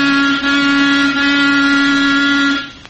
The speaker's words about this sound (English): Oh. Honk the horn again. Yeah.